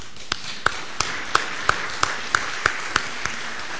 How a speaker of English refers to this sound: Folks, one of the ways to say praise God and thankful for the faith of this young man is a round of applause for his God.